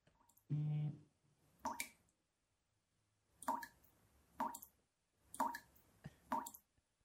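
A short voiced hum, then five wet, plopping drip sounds of a dripping faucet at an uneven, slow pace, fairly loud, likely imitated by a voice.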